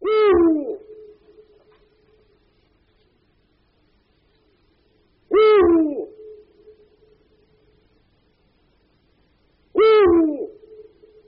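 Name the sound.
eurasian eagle-owl hooting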